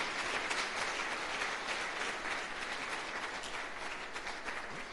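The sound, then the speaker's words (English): A crowd applauds for the Lord, steadily for several seconds, a dense wash of many hands clapping at once with no clear rhythm, holding an even loudness throughout. “Put your hands together for the Lord. Keep your claps to the Lord.”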